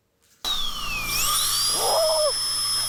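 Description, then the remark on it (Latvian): A high-pitched dental drill whines steadily as it grinds a tooth, its pitch dipping and rising, loud, with a brief lower squeal near the end and no talking. “Slīpē.”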